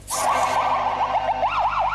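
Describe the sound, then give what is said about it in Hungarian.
Ambulance sirens wail on Pannonia Street in Angyalföld, Budapest, Hungary, in the morning as ambulances collect ill students from a dormitory. The pitch rises and falls in quick, repeated sweeps, fairly loud over a steady traffic rumble, with no talking. “Szirénázástól volt hangos délelőtt az angyalföldi Pannonia utca.”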